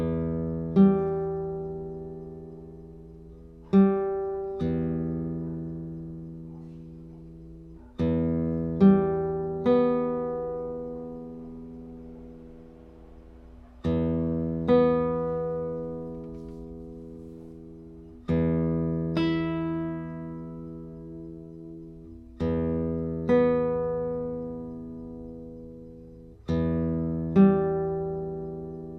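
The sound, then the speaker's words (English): Fingerpicked acoustic guitar: the thumb plays the lowest bass string, alternating with brighter treble strings plucked by the index, middle and ring fingers in short repeated patterns that ring out and fade between phrases, with no talking. “We just use the lowest one for now, and I'm going to introduce different patterns with those trebles.”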